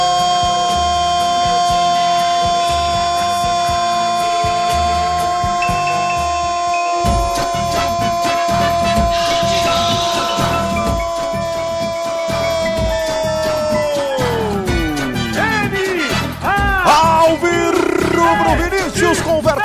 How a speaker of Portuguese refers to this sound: Do segundo tempo, Vinícius bate, manda a bola pro fundo do gol, empata o jogo. Explosão da torcida, Alvirrubra ex-campeão de Pernambuco, Vinícius faz.